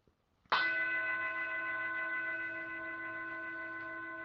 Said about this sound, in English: And so I'm going to ring the bell one more time.